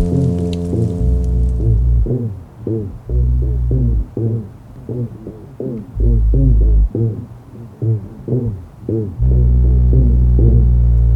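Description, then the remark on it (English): Loud, deep fish humming: sustained low droning tones broken up by rapid series of short, throbbing pulses, then the steady hum returns. No voices are heard. “Some fish emit amazing humming sounds.”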